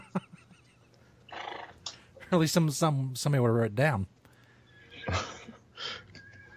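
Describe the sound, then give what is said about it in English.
A person imitates a horse's whinny with a loud, wavering, pitch-sliding neigh lasting about two seconds, set between stretches of ordinary conversational speech. “When you switch from the cow to the horse, it's multitasking.”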